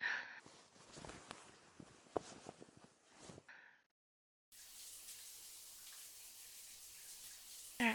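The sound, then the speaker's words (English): Hot water rushes steadily from a shower in a broad, hissing spray. It follows a stretch of rustling and light clattering movement and a brief pause. “I bet a nice hot shower will feel wonderful right now.”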